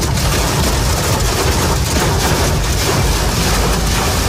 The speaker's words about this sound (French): Les images et le brouhaha des grêlons sur le pare-brise de cet automobiliste ce matin sur le périphérique lyonnais.